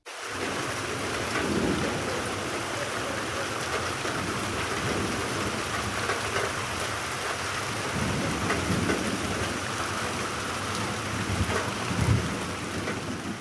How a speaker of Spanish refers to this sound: Una noche estalló una terrible tormenta con rayos y truenos. La lluvia caía torrencialmente.